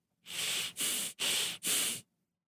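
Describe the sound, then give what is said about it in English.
Four quick, forceful nasal breaths in a steady in-and-out rhythm, breathy and hissy, huffing and puffing with no speech. “I'm just hearing a lot of like back and forth. A little huffing and puffing.”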